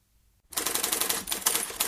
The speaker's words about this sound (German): Hier ist sie, die ultimative Schreibmaschine. Eine neue Innovation bringt das Beste aus zwei Welten zusammen. Die bewährte Schreibmaschinentechnik und das immer aktuelle Internet.